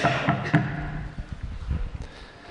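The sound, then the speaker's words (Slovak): Several dull, heavy thumps sound in an irregular series, like fists pounding on a wooden door, following a brief burst of sharper clattering noise at the start. “A tak onedlho zaznelo búchanie uprostred sna. Údery na dvere nočného Betlehema.”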